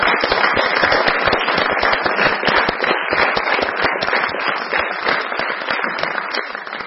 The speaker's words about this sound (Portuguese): Acho que merece uma salva de palmas.